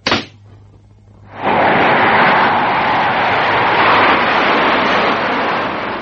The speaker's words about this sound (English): Well, when you watch them take off carrying other people, they look safe enough. It's only when you're going to be inside the jet that it suddenly becomes open defiance of the laws of nature. Russian roulette taken to the nth power.